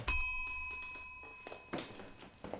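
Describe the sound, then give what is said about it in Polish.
A single bright ring of a hand bell rung to summon a servant, struck once and left to hum and fade slowly, while a few soft knocks and shuffling sounds follow. No one speaks. “Pan dzwonił?”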